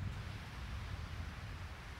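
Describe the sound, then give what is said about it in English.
Ocean waves wash against a shore on Kauai, Hawaii, at sunset, in a steady, unbroken roar, with a deep rumble that may be wind buffeting the microphone. No one speaks. “That's the real ocean.”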